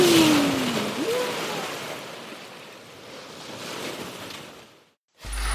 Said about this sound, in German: Nimmst du die nächste Welle? Bin schon drauf. Juhu!